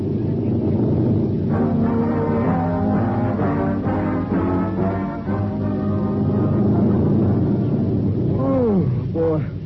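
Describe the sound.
A loud, steady low drone of an airplane engine fills the cabin from start to finish during a 15-hour flight, with muffled voices talking over the constant roar.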